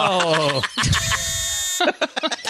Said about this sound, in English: Why'd you buzz